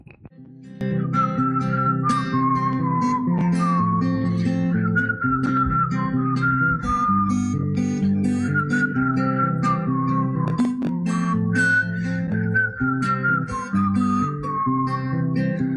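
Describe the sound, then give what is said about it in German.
A song about Corona plays with a whistled melody gliding along on top of steady, rhythmic accompaniment, loud and continuous throughout, with no talking. “So, und ich sage Musik ab für den Corona-Song und ja, bis nachher.”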